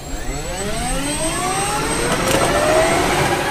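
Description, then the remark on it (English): A Black Hawk helicopter of the Alaska Army National Guard, its turbine engine roaring steadily, the high whine climbing in pitch as it spools up, with no voices over it. “Black Hawk helicopters provided by the Alaska Army National Guard.”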